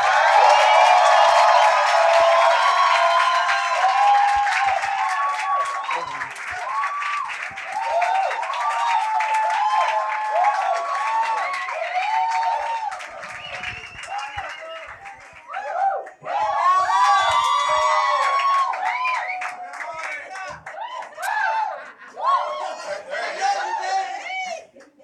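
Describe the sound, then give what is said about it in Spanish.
A crowd at a stand-up comedy show claps and cheers loudly for about twenty-five seconds as a comedian is introduced, with whoops and shouts rising over steady applause that dips briefly and then swells again near the end. “Así que por favor reciban un fuerte aplauso.”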